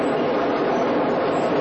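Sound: subway train running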